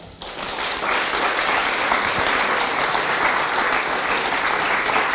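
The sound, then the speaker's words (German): Sustained audience applause for the guests of a panel discussion, a dense, steady wash of many hands clapping that starts almost at once and stays loud and even throughout, with no voices on top. “Gerne auch einen Applaus für die Gäste.”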